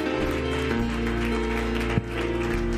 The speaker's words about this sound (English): Hallelujah. Give him a hand clap tonight.